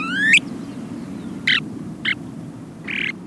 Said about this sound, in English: A male snowy plover has just announced his presence.